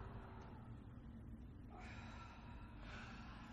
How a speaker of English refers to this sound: Have you seen a cat yawn when they do their full body stretch? So just do it. If you want, close your eyes and do a full face yawn.